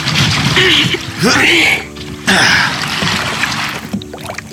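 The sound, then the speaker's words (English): A boat is pushed into lake water with a rushing splash, followed by sloshing and gurgling as waves churn and settle; bursts of noisy water swell twice, fairly loud. “Count me down, and I'll push it in the lake.”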